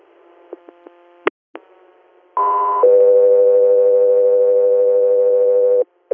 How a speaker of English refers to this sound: Sky 3 Air, standby for tones.